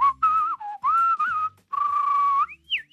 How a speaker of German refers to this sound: er pfeift, wann er will, wo er will und wie er will. Seit kurzem eben sogar mit einer Weltrekordauszeichnung.